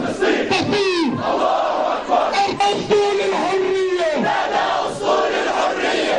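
A large crowd of street protesters in Jordan chants and shouts together, many voices overlapping in a loud, continuous roar that rises and falls without pause.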